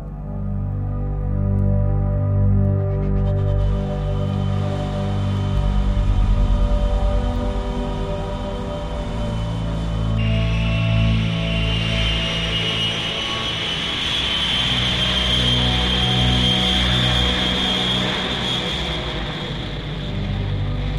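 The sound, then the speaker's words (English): A steady, loud passenger airplane engine roar builds through takeoff as the plane leaves the ground, with a high jet whine rising and strengthening partway through over a heavy rumbling low end. No voices are heard. “As the plane leaves the earth, many of the passengers turn their heads to look out the window.”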